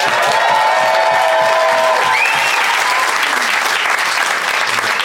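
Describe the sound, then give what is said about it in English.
An audience in Soho bursts into loud, sustained applause to vote for one side of a debate, a dense wash of clapping with a few whoops and cheers rising through it, holding steady for the whole stretch. “Okay, pretty healthy response there, but if you think Ben and Joel made the best case and therefore Michael is in the right, applaud now.”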